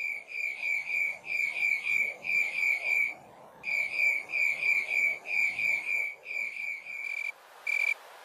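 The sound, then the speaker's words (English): An Acanthus rileyi insect, a Western species, gives a steady series of buzzy, high-pitched chirps. Each chirp is about half a second long and made of 11 separate pulses, and the chirps are evenly spaced with one short pause midway. No voices. “So that's Acanthus rileyi, and that's a Western species.”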